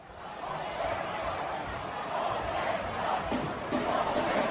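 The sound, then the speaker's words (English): A big hockey arena crowd in Tempe, Arizona, chants "Salt Lake sucks" together at the final game of the Coyotes' season, a dense wall of voices that fills the space, staying loud and steady with slight swells throughout. “Let's listen to the chants from the crowd.”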